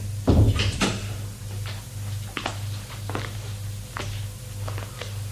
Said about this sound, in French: Bien, on va au séjour. Il ouvre la porte. Entre. Il entre.